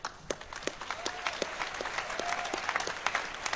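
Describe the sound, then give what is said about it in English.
A crowd claps steadily for the second-place team, School of Root, with 595 points at a Capture the Flag competition: a dense patter of many hands with sharper individual claps popping out, sustained at moderate loudness throughout with no talking over it. “So the second place team, who should give a big round of applause to, with...”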